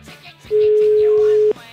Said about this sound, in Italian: Facciamogli una telefonatina, va, prima squillava e non rispondeva, vediamo.